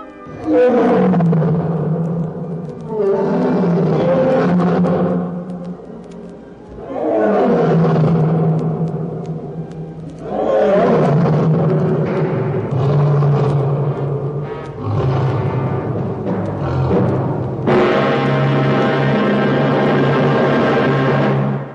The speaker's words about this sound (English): The lion is found on the open savannas and plains of Africa. He is chiefly active at night, and like the elephant, his roar silences the jungle momentarily before the scurry to safety. Listen to the king of beasts, the African lion.